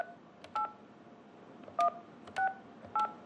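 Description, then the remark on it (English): Four short touch-tone beeps of a phone number being dialed to call a contractor, each a two-note electronic chirp, spaced unevenly over a soft hiss with no voices. “So we called the contractor and expected a little customer service.”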